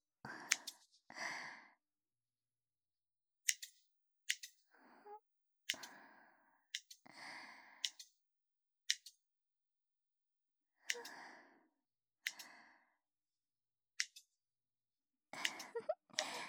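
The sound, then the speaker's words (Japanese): Crisp snips of scissors cutting hair, coming in short irregular bursts with pauses between, accompanied by soft, breathy sighing sounds. “ハサミのチョキチョキって音、気持ちいいですね。”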